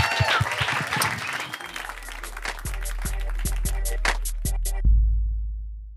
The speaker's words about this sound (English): Oh, man. That was great, guys. That was great. That was the hypothetical situation. Give these guys a round of applause.